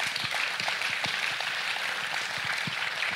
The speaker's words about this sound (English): And it's okay if that clapping is a little painful.